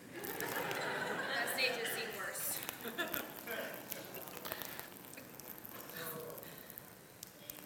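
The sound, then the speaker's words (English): Liquid is poured out onto a hard floor as a demonstration of a drink offering, in a steady splashing stream that tapers off toward the end, with faint murmuring and light laughter from people in the background. “My life has been poured out like a drink offering.”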